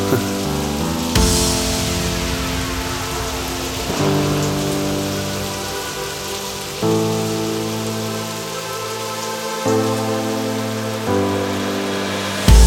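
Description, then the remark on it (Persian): Steady rain hisses throughout, a dense, even patter that never lets up, blended with sustained musical tones that shift chords every few seconds. No one speaks. “چه باران میاد.”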